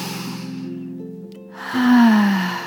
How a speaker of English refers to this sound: breathing in and out, and breathing in and out again, deep cleansing breaths.